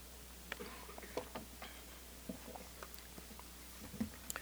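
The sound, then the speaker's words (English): Someone quietly sips a drink of water, with small wet clicks and swallowing noises scattered irregularly over a few seconds and no talking. “Okay, so I'm going to have a sip of water and then read the introduction.”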